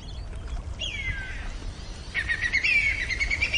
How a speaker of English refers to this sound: And there's the whistling kite. It's come. Did you hear that?